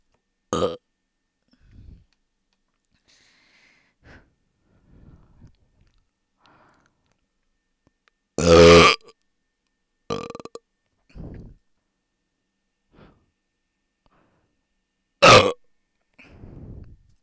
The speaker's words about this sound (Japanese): 私のゲップ聞いていけるよね。こんな汚いゲップで変態さんは興奮しちゃうんだもんね。